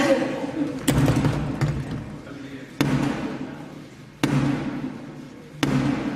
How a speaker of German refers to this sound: Dem Boten, oder in diesem Fall der Botin, wird vor der Nase die Tür zugeschlagen und sie muss mit 3 kräftigen Schlägen klopfen, damit ihr aufgemacht wird. Es ist ein Symbol dafür, dass das Unterhaus unabhängig ist von der Monarchie.